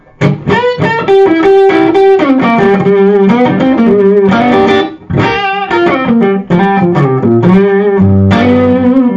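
An overdriven electric guitar plays a lively riff of sustained notes and chords, with a squawky, honky midrange tone from a pushed EL34 tube amp that sounds American rather than British. Loud and continuous, with no talking.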